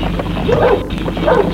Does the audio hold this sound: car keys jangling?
no